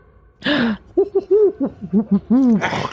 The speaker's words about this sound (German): Mistvieh. Was macht denn die Eule da?